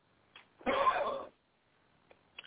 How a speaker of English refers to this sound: Hey, hang on 1 second. I have to got a cough.